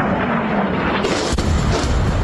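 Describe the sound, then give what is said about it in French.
A loud, rumbling blast from an explosion at night in central Iran near Isfahan, one of at least three heard, fills the air, with a sharp crack partway through followed by deeper booming low-end energy, roughly recorded, with no voices. “Au moins trois explosions comme celle-ci entendues dans le centre de l'Iran près d'Ispahan.”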